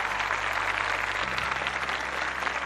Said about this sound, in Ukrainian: Такі гучні оплески чекатимуть кожного нашого слухача, тож слухаємо ваші привітання, ваші історії щодо вашого спільного життя зі Світлим Радіо Еммануїл.